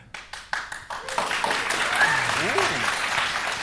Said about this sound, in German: Ihr habt jetzt nur aus Mitleid geklatscht, oder?